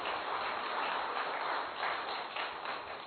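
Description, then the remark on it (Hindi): Thin, scattered clapping from an audience in which only about a tenth of the people clap: a steady patter of a few pairs of hands, moderately loud and fairly even for about three seconds, with no voices. “ताली बजाने में भी 10% लोगों का हाथ है, बाकी जो गाली नहीं दे रहे, जो ये धोखे में मुझे रख रहे हैं, वो ताली भी नहीं दे रहे।”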